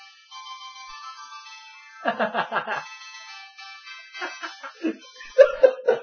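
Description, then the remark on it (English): A cell phone ringtone plays steadily throughout, a bright electronic melody with sustained tones, while people laugh and talk over it in short bursts. “Nice cell phone.”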